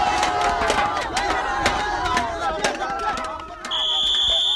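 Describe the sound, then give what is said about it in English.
A crowd-control training drill for new Somali soldiers at a training ground in the rolling hills of southwestern Uganda: many voices shouting over one another in a loud, dense clamor, with sharp cries, and a shrill, steady whistle-like tone cutting in near the end. “There's crowd control.”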